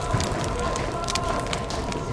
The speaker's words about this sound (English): We have to get out of here again. Everything's burning.